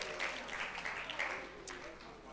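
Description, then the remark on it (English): An audience applauds with a steady, dense patter of many hands clapping at once. The clapping stays even and fairly loud throughout, with faint voices mixed in underneath. “Round of applause.”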